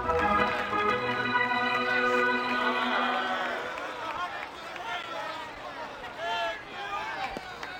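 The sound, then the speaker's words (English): A big stadium crowd in Cleveland roars loudly and steadily as the Indians take the field against the New York Yankees, the sustained wash of cheering easing a little after a few seconds into a busier babble of scattered shouts and whoops. “Anyway, listen to the roar of the crowd as the Indians take the field.”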